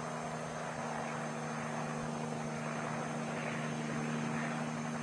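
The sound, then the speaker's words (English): An H-37 helicopter's engine and rotors drone steadily and loudly, a constant low hum with broad mechanical roar, unbroken for the whole stretch and with no voices. The helicopter is carrying a rocket crew and launcher during a military training exercise. “In another training exercise, the crew, Little John, and its lightweight launcher were flown and landed inside an H-37 helicopter.”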